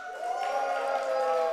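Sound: audience cheering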